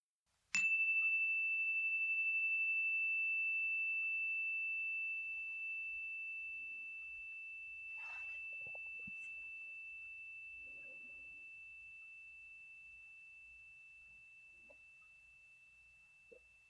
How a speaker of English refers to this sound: We will begin and end this meditation with the sound of a chime.